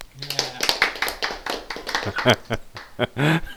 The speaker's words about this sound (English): And now, clapping.